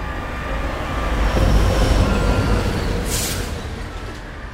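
vehicle, train

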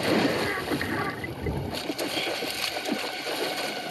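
water splashing

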